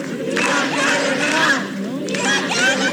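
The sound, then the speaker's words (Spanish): A dense crowd of several hundred mostly young people in the barrio París area shouting together in loud, sustained bursts, voices overlapping into a chanting roar with a brief dip before swelling again; they shout at each appearance shown on television. “Han estado gritando durante toda la tarde, a diferencia de lo que se pensaría, ¿no?”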